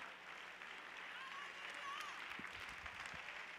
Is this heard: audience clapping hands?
yes